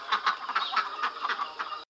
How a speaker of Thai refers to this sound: สัตว์ที่ออกลูกเป็นไข่ก็เช่นนกเป็ด